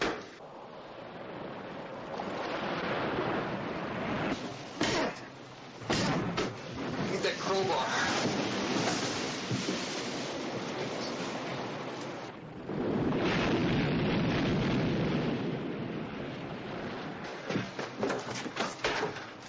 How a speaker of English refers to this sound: We got water in the engine compartment. Yeah, there's water coming in back here, too.